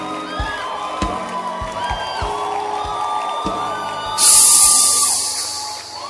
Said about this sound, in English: And tell the person, let's clap our hands and thank God for his word.